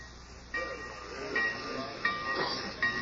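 A train idles at the station in Pineville, steam hissing steadily with a few sharper bursts of noise rising over a low mechanical rumble, moderately loud.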